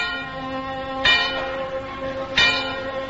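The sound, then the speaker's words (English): An old rusty bell is struck twice, about a second and a half apart, each clang ringing out with rich, lingering metallic overtones that hum steadily between strikes. No voices are heard. “In a junkyard, a final resting place for once useful gadgets, sat an old rusty bell.”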